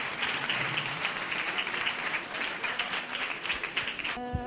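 A seated audience applauds itself steadily, a dense wash of many hands clapping at once that holds for several seconds before cutting off with a brief tonal sound at the end.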